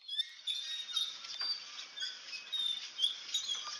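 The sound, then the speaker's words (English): Squeaky nightingale-floor footsteps: a steady stream of high, chirping squeaks that swell in uneven, step-like bursts, sounding almost like birds or mice, with no voices. “Now that you have told me what it is, it does sound like steps across the floor.”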